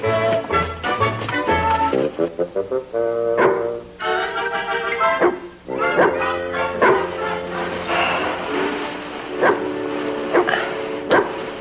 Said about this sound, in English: Henry, the dog's barking again.